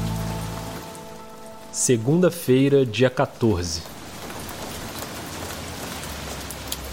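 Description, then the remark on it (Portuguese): Light rain falls steadily over a city at the start of a Monday, a soft, even patter and hiss that continues throughout. Partway through, a man speaks briefly over it, and a low hum is audible at the very start. “A chuva fina, que começou a cair no início daquela segunda-feira, encontrou uma cidade destruída.”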